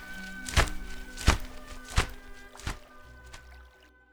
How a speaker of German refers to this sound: Ein Schwan fliegt mit großen Flügelschlägen über den See, der in der Morgenfrische mit zart nebligen Dunst überzogen ist.